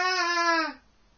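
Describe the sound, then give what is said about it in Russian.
A child cries out in one sustained, high-pitched wail lasting under a second, fairly clear, inside a building, then cuts off into quiet background. “Детская.”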